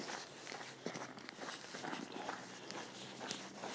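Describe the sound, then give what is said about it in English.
Quick, shuffling footsteps of a man hurrying along behind a dog, a steady patter of steps with soft scuffs, outdoors in snow, no voices. “Man scuttles along behind dog.”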